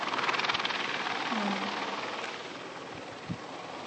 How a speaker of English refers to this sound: But he was very low, huh? He's very low. Yeah. He's very low. Oh, he looks like he's landing at the hospital. The hospital's only two blocks away. So he's landing at the hospital. It's probably an emergency helicopter.